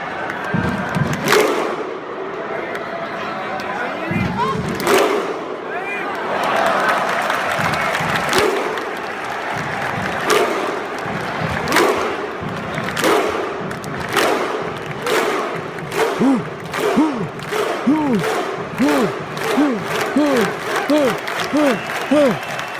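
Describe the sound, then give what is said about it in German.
A recording of a large crowd clapping and chanting, played in. Sharp, loud unison claps grow steadily faster toward the end, each followed by a short, rising shouted chant over constant crowd noise. “Ja, das Klatschen fehlt, aber ich muss irgendwie ein Mikrofon festhalten.”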